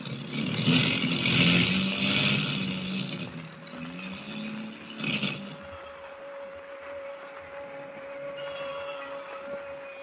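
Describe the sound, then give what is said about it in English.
Airplane motors drone and sputter unevenly, misfiring as the plane drops lower in a storm, their rough roar surging and dipping over about ten seconds while a steady high whine runs underneath. No voices. “The motors are missing worse than ever.”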